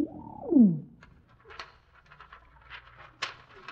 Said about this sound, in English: this pigeon's carrying a message.